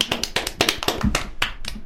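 A short burst of clapping after a correct answer in a quiz: a dozen or so sharp, bright claps in a quick, uneven rhythm, with no voices, lasting just under two seconds.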